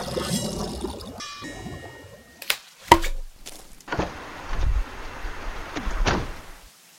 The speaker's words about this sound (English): Let's go see about getting that rain to stop, and maybe your brother Anton will cheer up after Sona called.